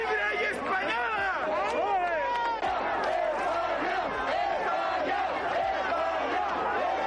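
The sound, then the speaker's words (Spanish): A large protest crowd in the Plaza Vallecana in Vallecas shouts and chants continuously at the arrival of representatives of the Vox party, separated from Vox supporters by a police cordon; many overlapping voices rise and fall in loud, rhythmic bursts with a dense roar of babble underneath throughout. “Los gritos se intensificaron a la llegada de los representantes del partido de Abascal a la Plaza Vallecana.”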